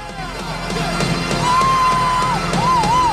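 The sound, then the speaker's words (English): A large crowd of fans cheers and claps continuously, with whoops and a couple of rising whistles cutting through the steady roar, which grows slightly louder partway through, as a finalist strides through them and they pat him on the shoulder. “He gets to his feet and strides through fans who clap, cheer, and pat him on the shoulder.”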